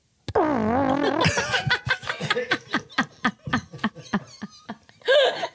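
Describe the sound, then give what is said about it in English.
A person buzzes with their lips and voice to mimic a device vibrating inside someone's chest, like a cell phone on vibrate: a wobbly droning rasp followed by a string of short, sputtering bursts, with a final buzzy burst. “It's like the alarm clock in a chest equivalent of a phone on vibrate, a cell phone on vibrate.”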